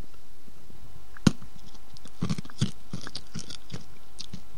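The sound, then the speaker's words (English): Sharp, brittle crunches of a thin, glass-like hard lollipop being bitten and broken into bits, starting with one loud snap and followed by a run of smaller irregular cracks and chewing clicks, with no talking. “I'm still licking my lollipop, and just after my last show, I actually started breaking bits off because it started getting really thin. And you can hear this.”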